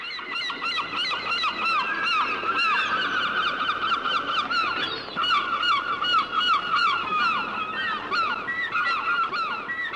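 A dense chorus of seagulls crying, their harsh overlapping calls repeating steadily and loudly for the whole stretch, continuous with no voices.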